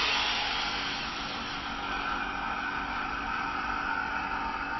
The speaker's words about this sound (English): I'll just switch the vacuum pump on to take the air out, so you'll hear that starting to run.